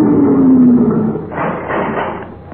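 A mechanical sliding door, opened by pressing a small disc set flush with the door panel, opens: a steady motor whine that slowly drops in pitch, followed by a broad, airy rush of noise as the panel glides back, with no voices.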